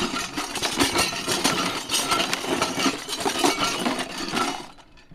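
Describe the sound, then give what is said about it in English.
A dense, continuous rattle of small loose bits shaken inside a plastic container full of stuff, clattering and clinking steadily for about four and a half seconds before tapering off, used as the debris sound effect for an explosion. “And so we have an explosion on our laptop for the explosion sound, but then we have a debris sound, and which is what we use, the plastic container with all the stuff inside, and it sounds like this.”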